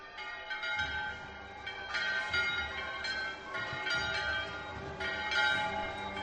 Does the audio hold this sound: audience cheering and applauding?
no